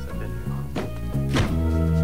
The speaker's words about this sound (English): Gundars and his associate get into the car, and a henchman slams the boot shut.